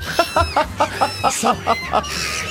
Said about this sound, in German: Schau, jetzt sind das jetzt tatsächlich noch Möwe!